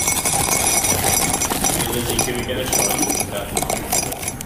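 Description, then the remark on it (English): Dry pasta pours from a packet with its corner cut open into an average mug in a steady, dense rattle of small hard pieces clinking against ceramic, continuous and fairly loud for several seconds. “And I'll just pour the pasta into this mug.”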